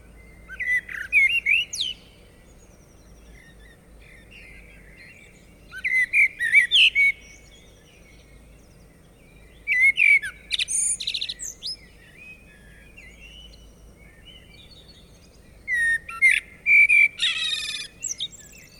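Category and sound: bird, common blackbird singing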